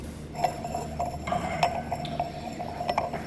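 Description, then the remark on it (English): A second wine glass is set down at a wine tasting with several light clinks of glass, scattered irregularly over a few seconds against a quiet background, with no one talking. “And I think you're going to find an interestingly different expression in a second glass for you.”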